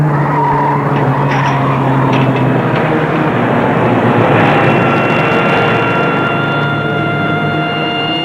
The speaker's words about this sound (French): Dans une rue de Paris, à un tournant, voiture de police, il la dépasse.